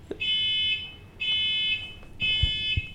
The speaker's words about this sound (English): The car is going off. What the hell is that? It's a fucking smoke detector.